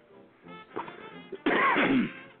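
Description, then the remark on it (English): A man coughs loudly, a harsh, raspy fit lasting under a second, preceded by a few softer throaty sounds and breaths, with no talking. “since we're off the air, I'll cough on the air.”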